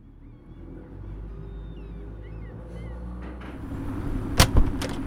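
Low engine rumble and idling vehicles, with faint chatter, building to sharp metallic clanks and thuds near the end as cars roll aboard a ferry.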